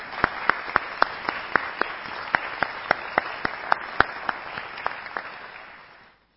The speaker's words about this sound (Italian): e insieme a tutti voi e a chi c'è a casa rivolgerei veramente un grande applauso a tutti loro.